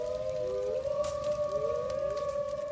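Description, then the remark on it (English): Wolves howl in the distance, several long, wavering cries overlapping and sliding in pitch at a steady, moderate level, with no one talking. “talking about commerce as the wolves howl in the distance.”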